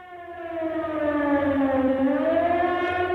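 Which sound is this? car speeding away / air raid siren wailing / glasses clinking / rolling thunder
air raid siren wailing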